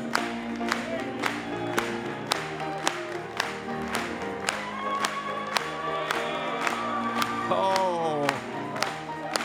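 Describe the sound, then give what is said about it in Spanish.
A crowd claps together in a steady rhythm in praise of God, loud and sustained, with cheering voices and musical tones rising over the claps throughout. “Podemos aplaudir una vez más a Él.”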